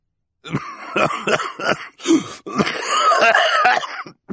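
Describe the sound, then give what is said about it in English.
A man, Mr. Poe, coughs into his white handkerchief while holding a glass of parsley soda: several sharp hacking coughs in quick succession, then a longer wheezing, rasping stretch of coughing before it stops. Loud; no one speaks. “When they followed Jerome across the enormous room to watch the auction underneath the inn banner, they found Mr. Poe, holding a glass of parsley soda and coughing into his white handkerchief.”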